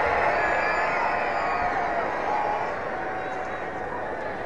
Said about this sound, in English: Crowd getting behind him.